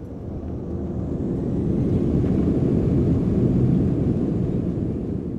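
A steady, heavy roar of airplane cabin engine noise on a flight of about 12 hours to England, deep and constant with a rumbling low end, continuing evenly throughout with no voices.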